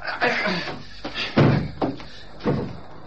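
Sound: door closing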